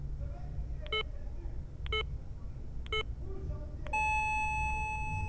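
Midnight time signal marking the start of 2009: three short, evenly spaced beeps about a second apart, then a longer sustained final tone, all bright and clear over a low, steady background rumble.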